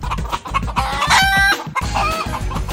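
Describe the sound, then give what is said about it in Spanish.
A rooster crows loudly, its drawn-out call rising over a busy background of chickens clucking in quick, steady pulses. No voices, just the barnyard flock. “Oye, ¿y alguna vez te has puesto a pensar en el espacio que ocuparían 510 millones de pollos y gallinas juntos?”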